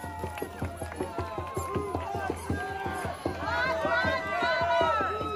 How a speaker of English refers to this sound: But you can watch it happening now. You can see someone walking over, sets the fire. The crowd cheers.